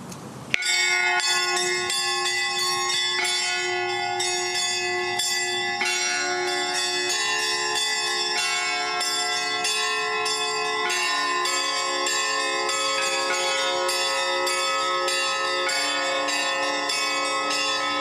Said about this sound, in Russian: Спасибо за этот замечательный колокольный звон